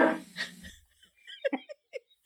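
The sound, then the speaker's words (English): In a TV production company logo heard after Gary David Goldberg shows such as Family Ties and Spin City, Gary David Goldberg briefly speaks, then his dog Ubu lets out a few short, sharp barks in quick succession, clear, with brief pauses between them. “Sit, Ubu, sit. Good dog.”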